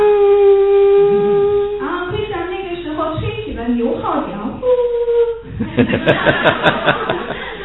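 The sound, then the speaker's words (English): Krishna sounds his buffalo horn as the cows approach: one steady, loud, reedy blast lasting nearly two seconds, followed by a jumble of voices and then rhythmic bursts of laughter. “And Krishna sounds his buffalo horn.”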